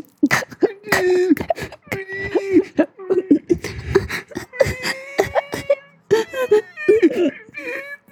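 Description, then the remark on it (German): A voice imitates ASMR-style crying, with wavering whimpers, choked sobs and sharp gasping breaths in uneven bursts, fairly loud, without any words. “ASMR weinen.”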